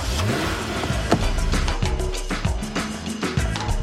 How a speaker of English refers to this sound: So each time we do a calendar shoot, scouting is a really important thing. And every moment that we had that was spare, we were in a car driving all over this island.